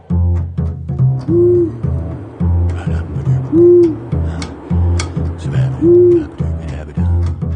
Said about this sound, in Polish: Dziś sprawdzałem i te sowy tam nadal są.